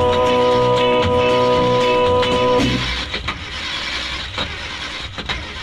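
A car engine starting up: a loud, steady whining crank for a couple of seconds, then it catches and settles into a rough, rumbling run.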